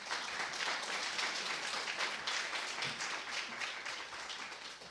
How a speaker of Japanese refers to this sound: 拍手を持って迎えしましょう。